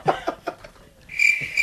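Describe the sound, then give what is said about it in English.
A cricket sound effect played from a button: crickets chirp in a steady, trilling chorus, starting with a few quick pulses and settling into a continuous high buzzing trill at moderate volume, with no voices over it. “You got gross, a cricket button for that?”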